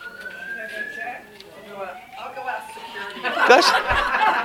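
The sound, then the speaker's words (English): During a Bible teaching session, a fire drill alarm sounds as a steady, high electronic tone that holds for about a second, with people talking and chuckling over it and a louder burst of voices near the end. “Fire drill.”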